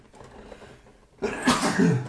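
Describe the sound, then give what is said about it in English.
A single loud sneeze bursts out after a second of near quiet, a sharp breathy blast that trails into a brief voiced tail. “I've been sneezing constantly for the last”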